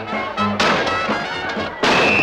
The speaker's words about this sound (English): An axe smashes through a panel in the door.